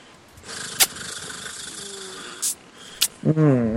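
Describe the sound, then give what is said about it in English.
A person imitates a cat's purr with a breathy, rattling rumble lasting a few seconds, punctuated by short clicks, then slides into a brief voiced hum. “I love purring for you.”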